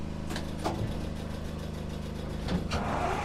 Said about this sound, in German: Der Motor springt an.